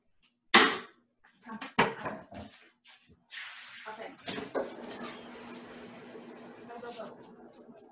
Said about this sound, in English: I think Prada needs out. She's barking. Did you hear? No, go get that dog.